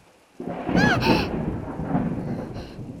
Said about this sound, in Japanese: 嘘、雷の音を聞くの好きなの？絶対変だよ。